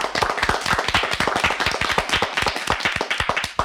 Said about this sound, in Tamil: அவர்களை முதலில் கைத்தட்டி வரவேற்போமா?